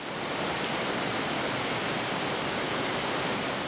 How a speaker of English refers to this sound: He's standing on the Sylvie's River, which feeds the whole basin below.